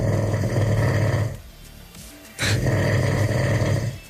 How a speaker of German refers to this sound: Also, das ist ja wohl das außergewöhnlichste Schnarchen Brandenburgs.